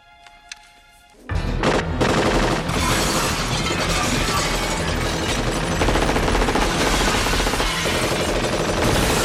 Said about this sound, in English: Now, violating the laws of physics and the conservation of mass in the state of California is not explicitly illegal, but I just want to point out that John McClane has fired over 160 rounds out of a 30-round mag at this point.